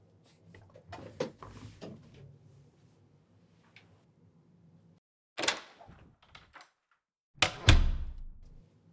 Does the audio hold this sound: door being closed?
yes